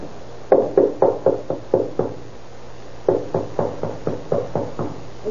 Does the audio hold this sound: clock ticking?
no